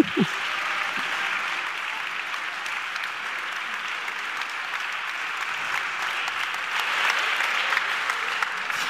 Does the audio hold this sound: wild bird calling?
no